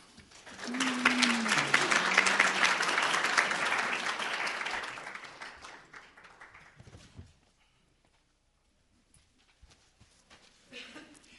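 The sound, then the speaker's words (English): A crowd claps loudly in sustained applause for several seconds, then it gradually fades out, leaving near silence with a few faint stray noises at the end. “You know, there's an old saying that you never want to sit so far from the microphone that the applause dies down before you get there.”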